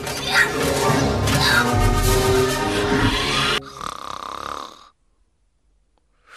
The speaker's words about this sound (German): Fängt … an zu schnarchen.